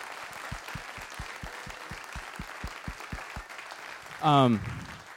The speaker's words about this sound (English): Can you guys give them a round of applause, please? Yeah.